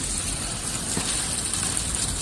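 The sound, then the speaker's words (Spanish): Heavy rain pours down at night in a steady, dense hiss that fills the whole recording, with no pauses or voices, loud throughout. “Es el sonido de la lluvia a su paso por al margen.”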